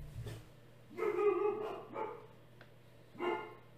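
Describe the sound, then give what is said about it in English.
A dog barks three times at uneven intervals, one longer drawn-out bark followed by two shorter ones, fairly quiet, with no one talking. “Dogs are pissed about this.”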